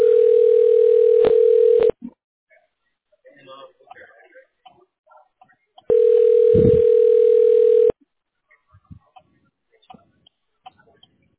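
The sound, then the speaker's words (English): Two long, steady telephone tones, each about two seconds and quite loud, separated by a few seconds of faint clicks and low background sounds, on a phone line held in a queue while waiting for an agent. “We apologize for the excessive hold, but all agents are on the phone and cannot take your call at this moment.”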